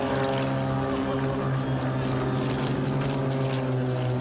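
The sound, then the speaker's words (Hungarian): Loud, steady roar of two airliners flying together barely 200 metres above the Danube at a Hungarian August 20 air show. A continuous droning hum with layered tonal whine and rushing air holds constant throughout, with no talking. “Idén először két utasszállítógép egyszerre repült alig 200 méterrel a Duna felett,”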